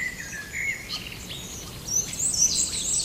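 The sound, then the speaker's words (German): High, thin whistles of a short-toed treecreeper repeat among a chorus of other birdsong and soft insect-like chirping, growing a little louder toward the end. No one speaks. “Da ist der Gartenbaumläufer noch. Genau neben ihm. Da diese hohen Pfiffe.”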